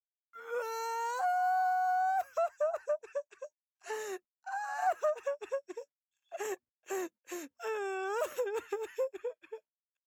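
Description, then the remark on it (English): A voice imitates whimpering and calling out: a long rising wail, then a run of short, pitched whimpers and gasping cries, another drawn-out moan near the end, with no words spoken. “If not, then surely he couldn't miss my whimpering and calling out to him. Something like this, though not quite as energetic.”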